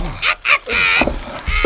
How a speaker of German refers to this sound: Tja, daher müssen wir dieses kleine Kunstwerk wohl leider zerstören. Oh. Ich wickle es in ein Geschirrtuch. Mal her! Und dann nehme ich einen Hammer. Und jetzt!